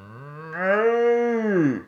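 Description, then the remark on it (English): A person imitates a cow with one long, drawn-out moo that swells in the middle and sags in pitch at the end, loud, with no other sounds around it. “I wish it was a plague of cows. I could do that better.”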